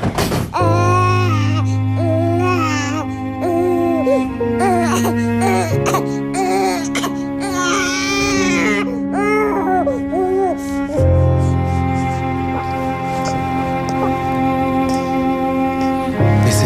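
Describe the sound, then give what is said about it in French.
A newborn baby boy, just delivered, cries in repeated wavering, rising-and-falling wails, loud, over a steady backdrop of sustained instrumental music that continues throughout. “De se dire que là, il y a ce bébé qui sait, je sais pas, il sera peut-être chercheur, il fera peut-être des maths, physicien, il sera peut-être assureur, commercial, ou alors historien, musicien, violoniste, accordéoniste, pêcheur, marin.”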